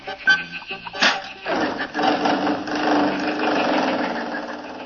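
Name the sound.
car engine driving off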